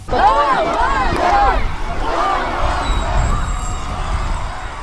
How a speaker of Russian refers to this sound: под бурные овации фанатов.